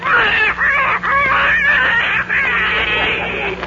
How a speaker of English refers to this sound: That's an unhappy duck.